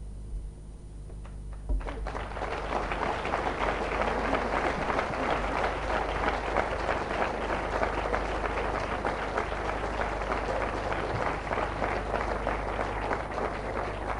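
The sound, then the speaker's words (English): An audience bursts into applause after a short, quiet lead-in, and the dense, steady clapping carries on at full strength to the end without letting up. “I think that the fact that the applause precedes my publicly thanking you is a good indication to you of how much the audience has appreciated your very comprehensive and extremely sensitive dealing with an issue”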